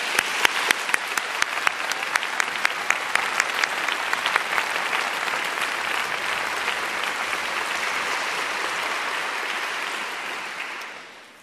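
An audience in the large broadcast hall (Großer Sendesaal) of the WDR applauds in advance of the performers playing a piece of music: steady, dense clapping with a few sharp individual claps standing out early, holding at an even level before tapering off at the end. No one speaks.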